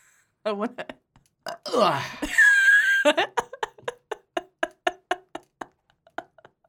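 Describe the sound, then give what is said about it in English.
A child lets out a loud, drawn-out burp, followed by a quick series of short, rhythmic vocal bursts. “Oh wow, that's your child is your child has responded to you with a burp.”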